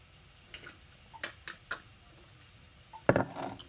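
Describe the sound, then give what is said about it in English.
Sweet tea being poured while walking: a few light, scattered clicks and taps, then a louder clinking, splashy clatter of glass and liquid lasting about half a second. No one speaks. “Sorry, I was trying to walk and pour my sweet tea at the same time.”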